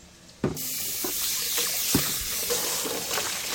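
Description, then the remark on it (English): About 3 cups of water pour steadily into a soup pot of parsnips, a broad splashing hiss that starts abruptly and continues throughout, with a few louder glugs and splashes along the way. “I'm going to add about 3 cups of water to this.”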